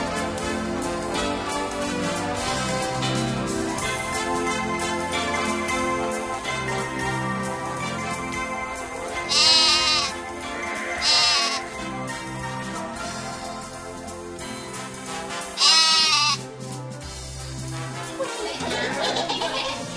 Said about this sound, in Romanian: Gata, gata cu behaiala. Mă, iezi ăștia, jucăuși, mă ascultați sau plecacuși?